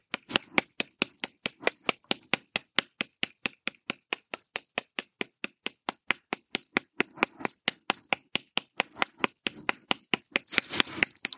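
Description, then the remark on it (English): A hammer taps sideways on a small torn doll, lightly in a rapid, steady rhythm, about four sharp clicky knocks per second, continuing evenly for over ten seconds with no voices. “I just tap sideways with the hammer.”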